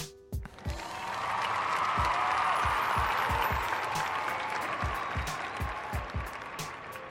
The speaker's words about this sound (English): You know what? I'm gonna give you another round of applause, dog.